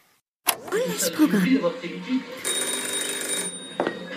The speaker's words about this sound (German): und zwar, wenn das Telefon klingelt. Das Telefon klingelt zu Hause bei Klots Frau.